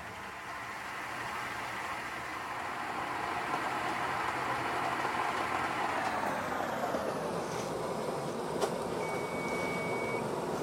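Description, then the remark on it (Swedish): A cooking thermometer (a melody egg) inside a saucepan gives its second single muffled, steady high-pitched beep near the end, half-buried under a constant loud hiss of water bubbling and simmering in the pot. “Där kom det andra pipet lite halvkvävt nere i kastrullen när det håller på att bubbla och sjuder i alla fall.”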